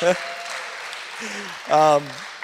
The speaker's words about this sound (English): Hey, let's give an applause. Tapsoljuk meg a tőle. Hey. He's the hero.